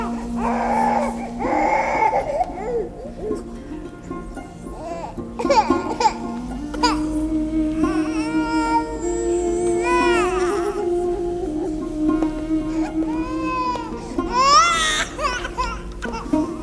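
A baby wails continuously for the whole stretch, its cries rising and falling in pitch with short whimpering breaks, loud, over a steady low hum.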